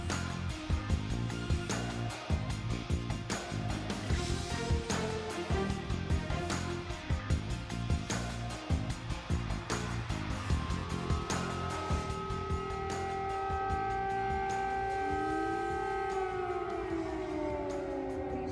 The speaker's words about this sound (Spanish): Es el sonido de la guerra, las sirenas que en Ucrania desde anoche anuncian miedo, dolor, bombas, víctimas, huidas.